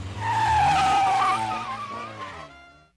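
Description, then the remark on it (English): A car's tires squeal loudly over a low engine roar as the vehicle peels out, the screech wavering and then fading away as it drives off, with no voices. “He's driving my car away.”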